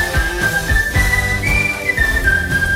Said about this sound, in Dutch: Fluitend de woensdagavond in.